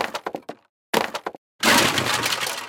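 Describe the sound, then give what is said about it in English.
Thirteen wooden doors in a cave are smashed with a club. There is a quick series of sharp cracking blows, a brief pause, another burst of hits, then a loud, sustained crash of splintering wood. “Johnny didn't care about that, so he broke down the 13 doors with his club.”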